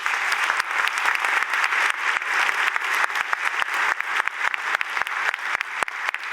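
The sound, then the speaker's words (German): Sustained audience applause for the organizing group of Bits und Bäume, a dense wash of clapping with sharp individual claps popping out, steady and fairly loud throughout with no voices over it. “Einen ganz, ganz herzlichen Applaus nochmal für den Trägerkreis der BITS und Bäume.”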